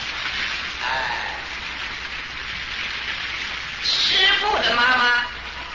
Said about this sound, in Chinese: 还有啊，今天呢，我的妈妈也在后面，我们给她鼓掌一下。